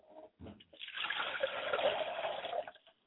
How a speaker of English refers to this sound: I like to pour a glass of water for my mother, and I say, Mother, quench your thirst and come and join us.